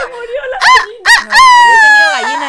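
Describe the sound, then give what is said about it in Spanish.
Someone imitates a hen, loud: two short clucking squawks followed by a long, drawn-out cackle that wavers in pitch before trailing off. “¡Es una gallina!”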